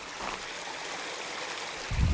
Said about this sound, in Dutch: Watervalletjes overal.